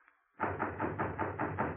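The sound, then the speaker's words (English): Someone knocks on a door over and over in a quick, steady rhythm that starts abruptly after a brief quiet moment and stays loud. No one speaks. “I'm not going to the door.”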